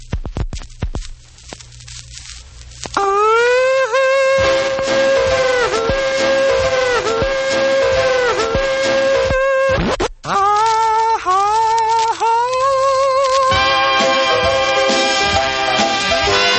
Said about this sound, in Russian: Ну вот давайте послушаем заставку и две отбивки от этой программы.